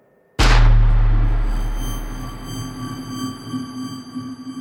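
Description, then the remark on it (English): A single loud gunshot, the first shot fired at a night-time traffic stop as a man reached his truck door, cracks out of near silence, then trails off in a long rumbling decay with a faint high ringing tone lingering underneath. No one speaks. “But just as I got to my truck door and just as I was about to get in, that's when the first shot rang out.”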